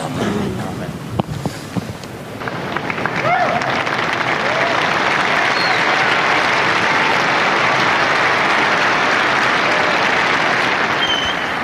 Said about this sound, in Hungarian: Napon is tapssal köszönik meg Ferenc pápának az áldását, a tanítását, a Szent Péter téren jelenlévő zarándokok